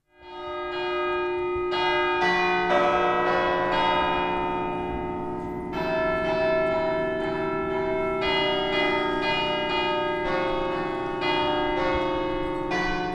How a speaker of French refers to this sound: Alors Quentin, on vient tout juste d'entendre un petit extrait de Vive le Vent, une mélodie que tu as spécialement adaptée pour être jouée par les cloches de la cathédrale.